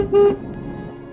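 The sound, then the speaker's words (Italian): A car horn gives one short, loud honk, then steady road traffic rumbles on underneath, like a busy street. “traffico.”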